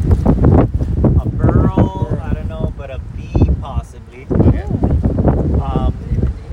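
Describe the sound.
Gusty wind buffets the microphone outdoors with a steady low rumble, while several people talk over the blustery noise.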